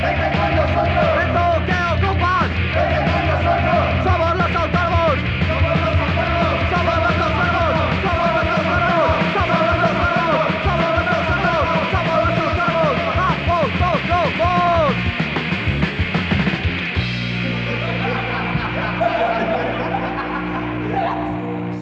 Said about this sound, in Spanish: Bueno, esa cintilla, un clásico del hardcore punk de Madrid